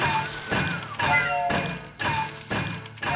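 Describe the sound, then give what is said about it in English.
A cider press machine clanks into motion, turning fresh apples into cider, with loud, heavy metallic thuds repeating steadily about twice a second over a ringing mechanical hum. “Right here in this heaving, roiling, cider-press, twirling guts of the very machine.”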